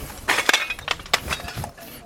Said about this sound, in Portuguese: Vocês ouvem aí os pedaços de telha. Pedaços de telhas por todos os lados da PE-320.